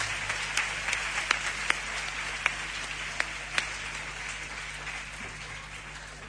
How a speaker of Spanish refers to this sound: Eso sí, un fuerte aplauso para María José Pulido, que quiere también dar la bienvenida a los asistentes a este evento.